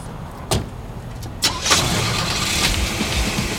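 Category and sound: vehicle, car engine starting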